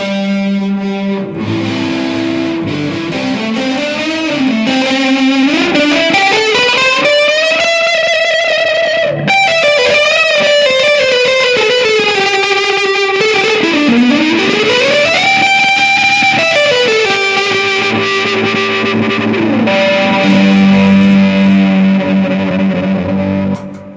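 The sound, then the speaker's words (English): An electric guitar plays through a Sea Machine chorus pedal and a Hoof fuzz pedal used together, with loud, thick distorted notes that bend and slide in pitch over a steady, shimmering wash, sustaining throughout with no voices. “The chorus is nice.”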